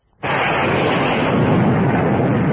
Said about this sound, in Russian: И тут над их головой совершенно неожиданно вспыхнуло ярко, и через несколько томительных секунд раскатился гром.